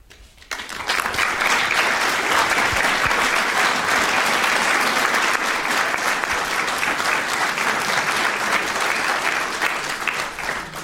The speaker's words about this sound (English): And that applause, obviously, is not just for you